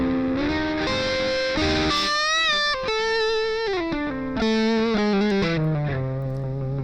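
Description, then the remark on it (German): A distorted electric guitar plays a melodic line with bends and sustained notes, the drive thinning and cleaning up as the playing softens toward the end. Loud and solo, with no voices. “Dynamisch aber. Die Verzerrung geht runter, wenn der leise spielt.”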